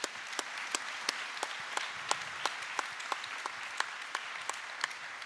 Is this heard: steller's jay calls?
no